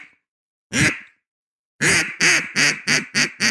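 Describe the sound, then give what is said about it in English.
A person imitates a gadwall duck's quack: one loud quack, a short pause, then a rapid run of six nasal quacks in steady rhythm, with no talking. “Can you do a duck? Can you do a gadwall?”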